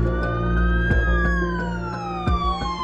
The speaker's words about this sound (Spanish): Mientras, las sirenas de las ambulancias advertían de que algo fuera de lo normal estaba ocurriendo.